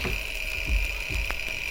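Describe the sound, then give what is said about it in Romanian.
A mechanical alarm clock rings with a steady, high-pitched metallic tone, overlaid with rattling clicks and a few dull low thumps, continuing throughout without any voices. “Ceasul!”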